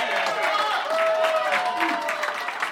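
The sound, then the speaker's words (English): A crowd bursts into loud applause with cheering and whoops for a man who has just finished the last sip of a drink, dense clapping filling the whole moment, with excited voices calling out over it. “Applause ever given yeah. for the least amount of anything, I feel.”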